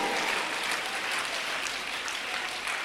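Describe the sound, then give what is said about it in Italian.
An audience applauds Jesus steadily, a dense, continuous wash of many hands clapping at an even loudness throughout, with no voices standing out. “perché io ho conosciuto e conosco un solo perfetto, il cui nome è Gesù, al quale vogliamo fare l'applauso.”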